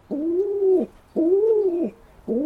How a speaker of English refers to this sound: The scene at the All England Lawn Tennis Club is legendary. The verdant green of the courts, the throngs of fans in sun hats, spooning strawberries and cream, sightings of royalty, and lots of pigeons.